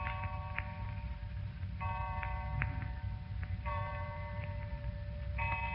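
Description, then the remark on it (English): A clock ticks steadily while ringing chimes strike twelve at regular intervals, each tone sustaining before the next. The sound is moderately loud over a low rumbling background, with no talking. “12 o'clock.”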